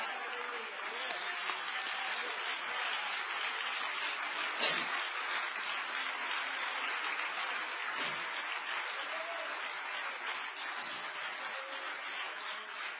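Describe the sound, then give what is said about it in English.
A large audience claps steadily for about thirteen seconds, a dense, even wash of applause at a constant level, with no voices standing out. “Would you clap your hands again, because God wants to do something in our heart right here.”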